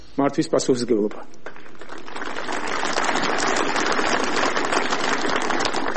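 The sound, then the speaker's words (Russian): Ivanishvili speaks for about a second during a nearly nine-minute speech, then is cut off by a burst of crowd applause that swells and keeps going as a steady, dense clatter of clapping until the end. “Здесь Иванишвили прервали аплодисментами.”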